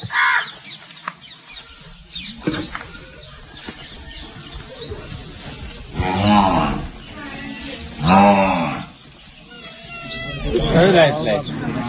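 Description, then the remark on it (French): A black goat bleats at the microphone while trying to chew its cable, several loud, wavering calls spaced a couple of seconds apart, over a busy outdoor background with other animals and voices. “Alors là, il y a une chèvre noire qui est en train d'essayer de boucher le fil de mon micro.”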